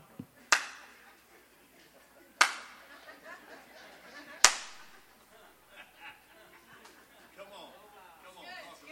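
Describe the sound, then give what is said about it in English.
Three sharp, loud hand claps ring out about two seconds apart, each with a brief echoing tail, while faint voices murmur in the background. “Look how I hand clap on me.”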